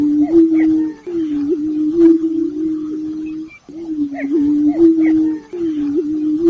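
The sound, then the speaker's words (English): Male prairie chickens in southern Iowa in April boom from elevated landscape features in a steady chorus of low, hollow, moaning hoots that overlap almost continuously, pausing only briefly a few times, with faint higher calls scattered above. “Males strut and boom their calls from elevated landscape features.”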